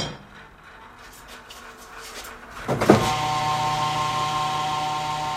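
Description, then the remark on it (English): A quiet outdoor backdrop gives way to a sharp metallic clank, then a steady electric-hydraulic motor whine and hum as a hydraulic hoist unloads two empty barrels and lifts two 55-gallon drums of used frying oil outside the Sea Basket restaurant on Route 1. No one speaks. “He uses a hydraulic hoist to unload two empty barrels and to pick up two 55-gallon drums of used frying oil left for him outside the restaurant.”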